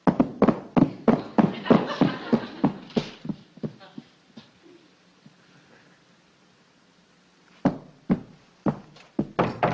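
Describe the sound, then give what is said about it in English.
Rapid, loud knocking on Eddie's door, which he will not open, a long string of sharp raps that slows and stops, then after a few seconds of quiet another insistent burst of knocks begins. “He isn't going to open the door.”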